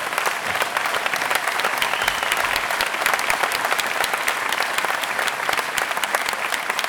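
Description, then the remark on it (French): Sustained audience applause for the team from Toulouse, a dense, steady patter of many hands clapping at an even loudness for several seconds, with no voices standing out above it. “Je vais terminer, parce qu'il me reste 5 secondes, sur l'intelligence collective et les nouvelles façons de travailler, faire dire un grand merci à l'équipe de Toulouse, que je vous demande d'applaudir”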